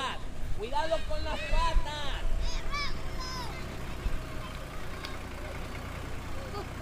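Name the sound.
tractor engine running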